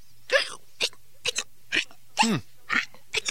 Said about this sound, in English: Listen to what happens when I tap it on the table. You know what a pencil is supposed to sound like, right? Of course. But listen to it now. Every time I tap it, it hiccups.